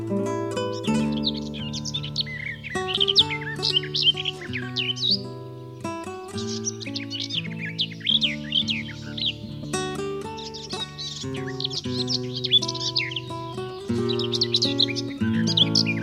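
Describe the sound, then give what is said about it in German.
A garden warbler sings a continuous, rapid, warbling stream of bright chirps and trills, loud, with a steady low musical drone running underneath throughout. “Das war die Gartengrasmücke.”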